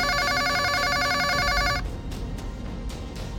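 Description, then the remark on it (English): A telephone rings with a bright, rapidly trilling bell tone, steady, then cuts off abruptly after under two seconds, leaving quiet background noise. “Linda eventually just stopped answering the phone.”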